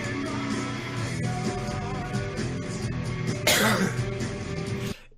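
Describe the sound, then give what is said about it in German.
A single short, sharp cough bursts out about two-thirds of the way through, fairly loud, over a steady bed of background music. “Wir sind bei Husten 3-mal, Kippe 4-mal und Aufstehen auch 4-mal.”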